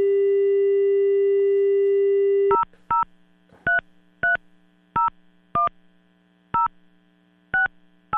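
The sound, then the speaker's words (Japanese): A steady phone dial tone hums for a couple of seconds, then cuts to about nine short, clear keypad beeps as a phone number is dialed to place a call, spaced unevenly, with no voices. “ちょっとね、電話してみたいと思います、今から。”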